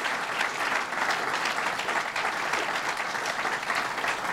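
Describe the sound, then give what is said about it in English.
Steady, sustained applause from an audience, a dense wash of many hands clapping at an even level for several seconds without a break, with no one speaking over it. The applause thanks a woman for her leadership of the SUNY system. “Let's give her a round of applause and thank her for her leadership.”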